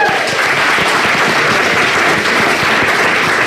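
An audience breaks into steady applause, a dense patter of many hands clapping at a constant, fairly loud level for a few seconds, with no one speaking over it.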